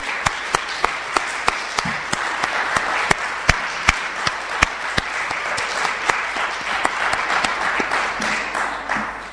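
A crowd in Berlin applauds steadily for several seconds as a farewell to a departing member, a dense wash of many hands with a few sharp, louder claps standing out at irregular moments throughout.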